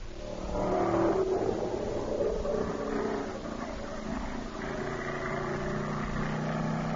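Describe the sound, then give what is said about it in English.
A stock car engine sound effect for the West Peabody Speedway roars steadily with a throaty, droning hum, its pitch rising and falling as it revs, loud and continuous for the whole stretch with no voices. “Do we have any sound effects for the West Peabody Speedway?”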